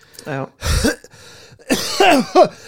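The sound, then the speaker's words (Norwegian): A short fit of harsh coughing, several rough bursts over a few seconds with brief gaps, ending in voiced, throaty coughs that sound like someone trying to clear their throat. “Kommer hosten, røykhosten?”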